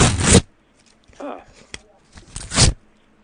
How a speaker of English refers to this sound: I'm going to finish eating your mail and ripping it up and throwing it in the fireplace.